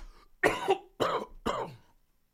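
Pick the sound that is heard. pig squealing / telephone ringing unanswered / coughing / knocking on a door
coughing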